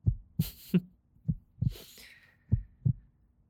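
A muffled heartbeat thumps in a steady lub-dub rhythm, about eight low beats in a few seconds, with brief soft rustling noises above it. It is felt through a hand pressed on a person's chest, and the heartbeat is speeding up.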